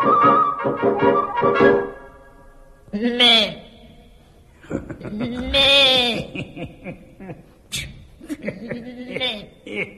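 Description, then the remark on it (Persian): Two or three loud, wavering sheep bleats ring out, separated by short pauses, following a stretch of chuckling voice sounds at the start. “مطمئن باش فردا همین موقع منتظرتم، البته با یه گوسفند دیگه.”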